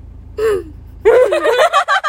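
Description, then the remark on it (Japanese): A loud voice lets out crying sobs: a short falling whimper, a brief pause, then a longer, quavering, breathy wail that shudders up and down for about a second. “泣き声、泣き声。”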